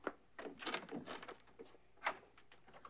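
A door is opened with a run of scraping, rattling knocks and a sharper clack near the end, all fairly quiet with no voices.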